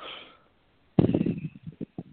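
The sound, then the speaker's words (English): A soft breathy exhale fades out, then after a brief silence a loud, forceful breath is blown out, sputtering into a few shorter puffs, during a guided breathing exercise. “You're going to take a deep breath in and hold. And I'm going to say something and you listen. I release all positive and negative emotional blocks with confusion and then blow it out.”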